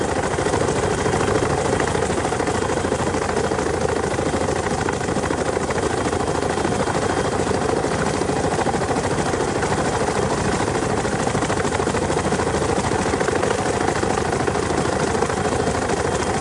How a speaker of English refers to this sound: He's leaving here now on this helicopter